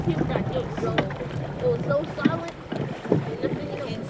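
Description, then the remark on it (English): Whitewater rafting on the New River in early fall, with three big blue rafts filled with kids: a steady wash of rushing water with splashy paddle strokes, while indistinct voices call out over the noise. “What did we just do? Water rafting and I'm cold.”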